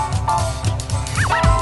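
A jazzy Christmas song remix plays on its own, with a steady thumping low beat under sustained tones and a quick pair of sliding, swooping melodic notes near the end.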